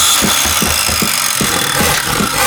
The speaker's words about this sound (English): Another hammering sound, and then we got the power tools.